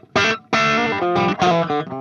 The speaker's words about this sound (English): And then last but not least is the Golden Reverberator, the UA pedal. Okay. Which just has a little bit of room going. That's without it.